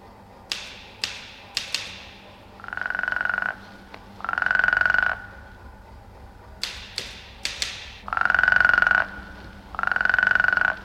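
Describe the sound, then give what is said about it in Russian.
A tree frog gives four loud, buzzy, steady-pitched croaks, each about a second long, in two pairs, answering bursts of sharp tapping on a typewriter that come between them. No one speaks. “Это же древесница.”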